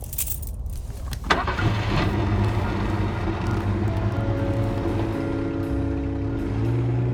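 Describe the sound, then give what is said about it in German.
A faint jingle of keys, then the engine of a new car catches abruptly and settles into a steady drone that rises in pitch as the car pulls away and accelerates. “Und so fuhren wir.”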